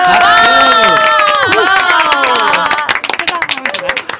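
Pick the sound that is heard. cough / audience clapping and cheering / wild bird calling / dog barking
audience clapping and cheering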